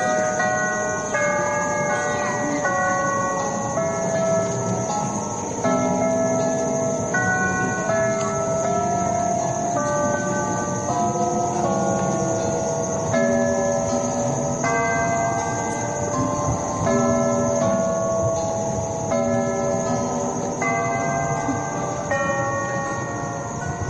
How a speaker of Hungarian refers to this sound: hogy mind a 63 vármegyének elkészült a címere, és hogy a tér szép legyen, és hogy a homlokzaton valamit segítsenek, kitalálta Klebersberg ezt a zenélő órát, ami megint egy sajátos műfaj, és amit egy kiváló szegedi órásmester, Csúri Ferenc készített.